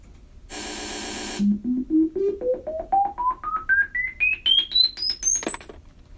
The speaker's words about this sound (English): Okay, now you're going to hear some loud beeps.